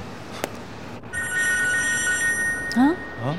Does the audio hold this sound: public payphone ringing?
yes